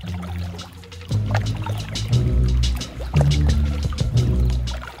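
Water splashes and sloshes as a wasp slips off a slippery stone and falls into a stream, followed by a few more choppy splashes and a low churning rumble. The sound is fairly loud, with no voices.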